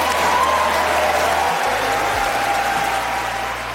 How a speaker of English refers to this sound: He's saying he's going to give public school teachers a raise. That got him a big cheer during the State of the Union. I want to give public school teachers a raise.